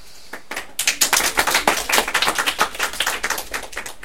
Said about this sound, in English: Clap for her.